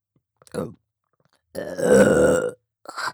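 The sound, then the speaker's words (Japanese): A long, loud burp rumbles for about a second, preceded by a short throaty gulp and followed by the start of another at the very end. No talking. “またゲップが出ちゃいます。”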